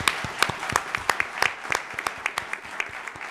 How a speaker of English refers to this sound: Can I have a round of applause for these guys? Thank you.